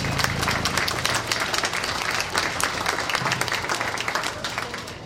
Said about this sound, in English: Let's give all these young contenders a round of applause.